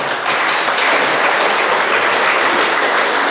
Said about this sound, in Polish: Bo tego nie powiedziałem, te oklaski to nie dla nas. Właśnie dla tego całego nieba, które jest z nami tutaj obecne.